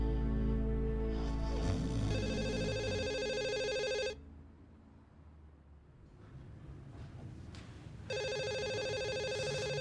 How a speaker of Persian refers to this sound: چرا تلفن تو بر نمیداری؟